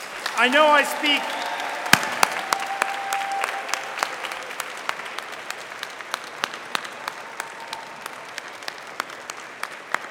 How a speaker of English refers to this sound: Before we conclude these proceedings, let us have one more round of applause, this time for the family and friends present here today.